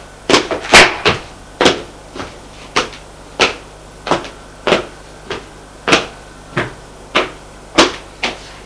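Steady footsteps of a person leaving an apartment and climbing a staircase to the next floor of an apartment building, about fourteen firm, evenly spaced thuds in a brisk rhythm, fairly loud, with no voices.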